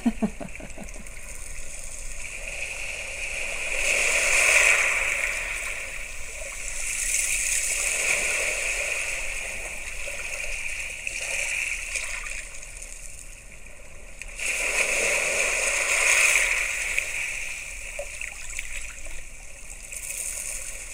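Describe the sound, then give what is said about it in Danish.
Small waves wash in and draw back over small pebbles on a beach, with a steady fizzing, rattling rush that swells in surges around every several seconds, fairly loud, no voices. “Men her, der kan man høre, der er sådan ligesom sådan nogle bølger, og så kommer der nogle små sten.”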